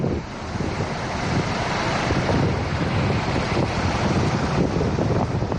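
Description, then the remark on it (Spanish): Strong wind from storm Ivo in Cantabria roars steadily with gusting, buffeting noise during one of more than 60 emergency service callouts, dense and loud from start to finish, with no voices. “Así rugía el viento en una de las más de 60 intervenciones que han tenido que realizar los servicios de emergencia.”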